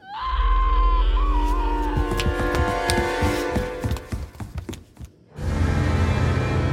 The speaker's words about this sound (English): on his knees, his arm outstretched, tears in his eyes. He was bawling.